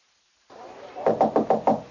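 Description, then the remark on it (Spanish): Five quick, evenly spaced knocks on the door of a house, fairly loud, following a short stretch of low background hiss. “con su mamá en la casa y de repente suena la puerta.”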